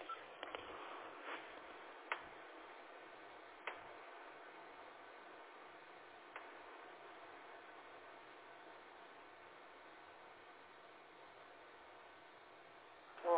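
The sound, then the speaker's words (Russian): A phone number being dialed on a second telephone line: a few sparse, soft clicks at uneven intervals over a steady, thin telephone-line hiss, with no one speaking until a brief sound right at the end. “Сейчас, повисите, пожалуйста, на линии, я по другой линии звоню.”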